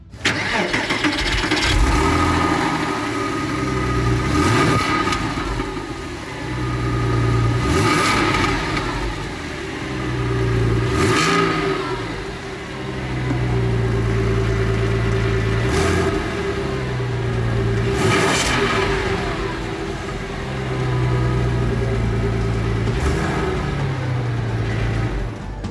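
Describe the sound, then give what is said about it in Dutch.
A car engine with a single small exhaust pipe in the middle underneath revs repeatedly, roaring up in pitch and dropping back to a rumbling idle several times in a steady rhythm, loud with no talking. “Dus het feit dat er maar één uitlaatje in het midden onder zit”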